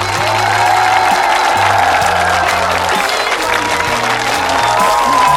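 Loud, sustained applause from a sizable audience welcoming a piano soloist of the London Philharmonic to the stage, a dense wash of clapping with crowd noise and a low musical tone droning underneath.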